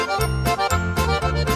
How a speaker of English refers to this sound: Hear those bells, ring the ting-a-ling polka. I could dance forever while listening to those bells.